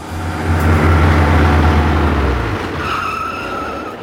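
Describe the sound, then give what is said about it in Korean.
A car engine rumbles loudly with a deep, steady drone as it drives into a yard, then cuts off after a couple of seconds, leaving a fainter hiss and a high whine with no voices. “부릉부릉 소리는 점점 가까이 다가오더니 여간 마당께로 들어와 멈췄다.”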